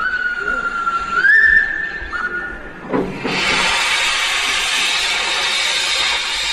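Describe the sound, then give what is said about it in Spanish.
The Mataró, a replica steam locomotive built in 1948, starting up at a museum in Catalonia: a steady high whistle tone for about three seconds, then a sudden loud burst of broad, continuous steam hissing that holds evenly to the end. “Cuando se pone en marcha, así suena el vapor.”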